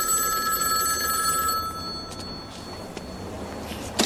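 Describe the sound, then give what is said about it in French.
A short quiz jingle built around a ringing telephone: a steady, bright electronic ring holds for about two seconds, then fades into quieter clicks and a faint tail, with no talking. “Allez, nouveau questionnaire, nouveau jingle.”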